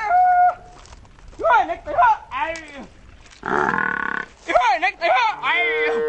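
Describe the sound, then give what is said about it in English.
A man's voice calls out loudly in a series of rough, drawn-out shouts and guttural cries, herding water buffalo, sheep and cows on a parched wasteland, with brief pauses between calls and one long sustained holler in the middle. “Her husband's call shatters the eerie stillness.”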